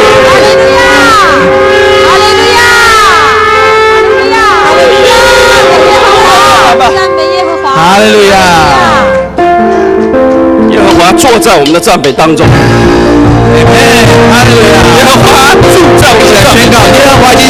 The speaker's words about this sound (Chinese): 弟兄姊妹们，让我们用脚声、用掌声、用欢呼声来欢迎我们的神。